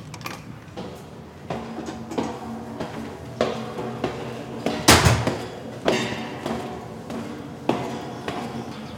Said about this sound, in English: There's a door at the base of the Carillon. Lindley unlocked it